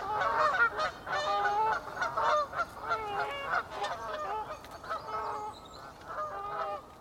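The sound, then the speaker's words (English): A flock of Canada geese honks loudly and continuously, overlapping nasal calls tumbling over one another for several seconds, with no voices present. “but I'm going to stick my neck out and say that might be a Canada goose.”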